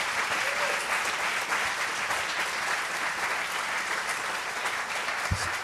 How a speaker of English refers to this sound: But more importantly than that was Meb's win last year at the 2014 Boston Marathon, the greatest marathon victory for American of all time. How about a round of applause for that?